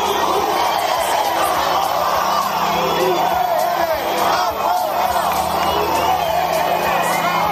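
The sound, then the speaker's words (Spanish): A large crowd shouts and yells loudly and continuously, many voices overlapping into a dense, angry roar of chanting and jeering, intense throughout: hundreds of people shouting 'UPN fuera' and throwing objects at the municipal corporation led by mayor Enrique Maya during the San Fermín procession on Calle Curia. “Cientos de personas han empezado a gritar y lanzar objetos a la corporación municipal encabezada por el alcalde Enrique Maya.”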